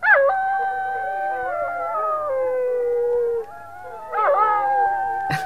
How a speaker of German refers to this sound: Gut, darf ich sagen, es gibt auch Hunde, die heulen auf Knopfdruck.